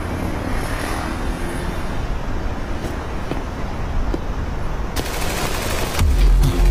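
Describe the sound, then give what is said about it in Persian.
Several sharp gunshots, coming from an office, crack out at irregular intervals over a steady, loud roar like engines or machinery, with a heavier burst near the end. No one speaks. “صدای شلیک گلوله است.”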